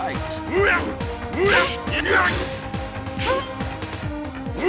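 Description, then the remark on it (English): Repeated punchy impact sound effects of the player's punches in a video game's final round land in a rough rhythm, several hits with thwacking, whooshing sweeps, layered over busy game sounds and a speaking voice. “Those are my punches.”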